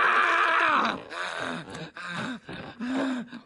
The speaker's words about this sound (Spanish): ¡Has hecho llorar a tu madre por última vez, hija!